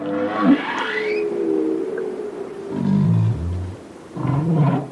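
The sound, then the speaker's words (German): Whales sing underwater: long, sliding tonal moans with rich harmonics rise and fall in pitch, followed by lower groaning calls and a final wavering cry, with no talking. “Erst als wir die Walgesänge unter Wasser aufnahmen, konnten wir alle zählen und zeigen, dass es wieder Tausende gab.”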